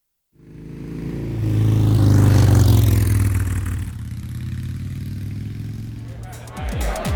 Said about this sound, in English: He takes the helmet and jumps on the motorbike. Cinderello rides to the palace.